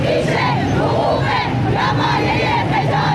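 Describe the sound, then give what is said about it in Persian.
A protest crowd of provincial employees of Iran's State Welfare Organization chants loudly in unison in front of the Islamic Consultative Assembly (parliament) in Tehran, protesting over salaries, benefits and welfare payments; many voices shout together in steady, rhythmic surges with no pause throughout. “روز گذشته در تهران کارمندان استانی سازمان بهزیستی در اعتراض به وضعیت حقوق و مزایا و دریافت‌های رفاهی خود مقابل مجلس شورای اسلامی دست به تجمع اعتراضی زدند.”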